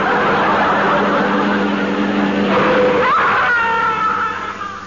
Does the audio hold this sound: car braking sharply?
yes